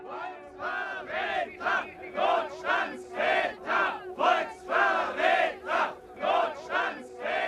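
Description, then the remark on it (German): A protest crowd of young people and students demonstrating in Germany against the emergency laws (Notstandsgesetze) and Chancellor Kurt Georg Kiesinger shouts in rhythmic bursts, loud chanted syllables rising and falling about once per second over a steady murmur, with no single voice standing out. “Je mehr ich Geschrei dieser Art höre, desto deutlicher wird mir, wie notwendig es ist, in unserem Lande für Ordnung zu sorgen.”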